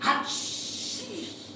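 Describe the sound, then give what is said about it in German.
A voice imitates a father's loud sneeze, 'Hatschi': a short voiced burst followed by a long, drawn-out hissing 'choo' that trails into a lower, fading vocal tone. “Gern bekommt er Niesanfälle, die sich ungefähr so anhören.”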